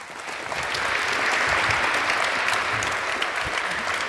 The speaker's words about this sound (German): Vielen, vielen Dank und das ist nochmal dein Applaus.